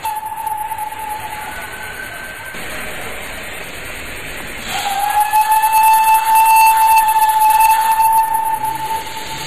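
A steam locomotive lets off a steady rushing hiss of steam, which swells louder midway as a sustained high whistle-like tone joins in while the train pulls away; no voices.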